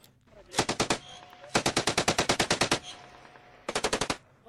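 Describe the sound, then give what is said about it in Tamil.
Three bursts of rapid automatic gunfire, a short volley, a longer sustained string of sharp cracks, then another short volley, loud with no talking, during fighting in the city of Kunduz, Afghanistan, as Afghan forces try to retake it from the Taliban. “அங்கு தொடர்ந்தும் துப்பாக்கி மற்றும் வெடிகுண்டு சத்தங்களை கேட்கக்கூடியதாக இருப்பதாக தகவல்கள் தெரிவிக்கின்றன.”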